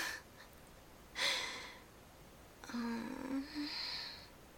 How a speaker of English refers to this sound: Because all you're doing is breathing heavily with your eyes closed. Oh, and your mouth is open.